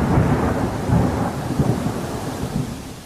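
Deep, rolling thunder rumbles continuously through a late-night thunderstorm over a village after days of heat, with low booming swells rising and fading over a steady wash of rain. No voices.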